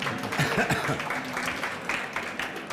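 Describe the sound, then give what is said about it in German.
An audience at a panel discussion on media claps in a steady, dense patter of welcoming applause lasting a few seconds, with a voice briefly audible early on over the clapping. “Vielleicht kriegen wir einen kleinen Applaus von da draußen.”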